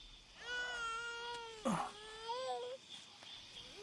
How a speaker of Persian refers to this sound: گریه نکن. آروم باش. بیا. آروم شد.